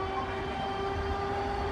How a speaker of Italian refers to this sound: Sono sul tram numero 3, mentre attraverso il traffico di Roma.